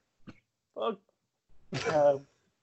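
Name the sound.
cough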